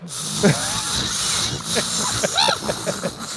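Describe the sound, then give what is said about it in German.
A voice imitates the Oppenheimer film soundtrack with a steady, breathy hissing drone, broken by short swooping tones that rise and fall near the end, with no words spoken. “War der Oppenheimer-Soundtrack nicht ungefähr so?”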